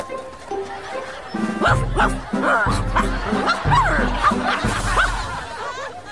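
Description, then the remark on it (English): A person barks like a dog in a rapid series of loud woofs and yips, mixed with snickering laughter throughout. “You will do whatever I say. Bark like dog.”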